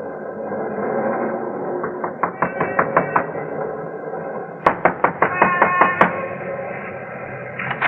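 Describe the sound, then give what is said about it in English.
A fat cat in a bar window meows in a long, drawn-out wail, fairly loud, while two quick bursts of sharp rhythmic knocking break in partway through. “And note briefly that the cat in the bar window is the fatter.”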